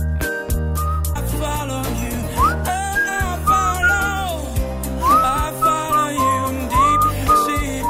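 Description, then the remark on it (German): A person whistles a cheerful, bouncy tune with gliding notes, clear, over a steady musical accompaniment, with no talking. “Warum pfeife ich hier so fröhlich vor mich hin?”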